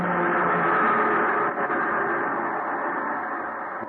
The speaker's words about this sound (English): The PE train going by.